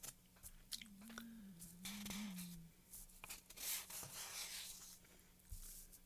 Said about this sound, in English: Now, the scratching you hear is me turning pages. But I wonder what that ooh kind of sound is in there. Did you hear it? Listen to it again. Isn't that weird?